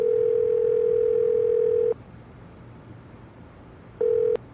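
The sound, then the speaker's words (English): A steady, low-pitched telephone dial tone hums for about two seconds while a call is placed to Pierman, stops for a two-second gap, then starts again briefly before cutting off. No one speaks. “Now that you've double-checked, I'm calling Pierman.”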